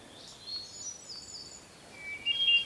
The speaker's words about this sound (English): It's a beautiful, quiet day, and I'm out in an area that's got a lot of conifers. Very beautiful, green place. I'm recording a hermit thrush.